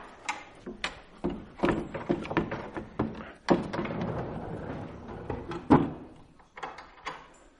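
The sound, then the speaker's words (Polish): A room partition is slid along and stowed away, making a series of irregular wooden clacks, bumps and thuds over several seconds, with no one speaking. “Już jak jesteśmy, to zademonstrujemy tą stronę. I to też można schować.”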